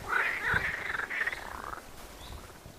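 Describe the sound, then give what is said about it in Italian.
Frogs croak in a loud, wavering chorus of drawn-out calls that rise and fall in a water-filled, flooded river meander, then thin out into quieter outdoor background near the end. “Si sente il gracidare delle rane.”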